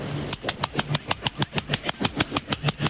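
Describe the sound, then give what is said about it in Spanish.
A voice imitates a seal with a quick, steady run of about fifteen harsh, breathy grunting barks, evenly spaced and fairly loud, with no talking around them. “Tengo una foquita en mi casa. La foquita que hace así, mira.”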